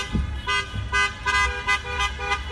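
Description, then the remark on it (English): Several car horns honk in repeated, overlapping bursts, some short toots and some held longer, fairly loud against a low rumble of traffic, with no one speaking, from people protesting in their cars in Charlottesville. “But one thing that's been different about recent protests is how many people are protesting in their cars.”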